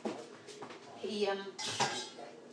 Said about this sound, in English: And I'll just put his dish in the dishwasher.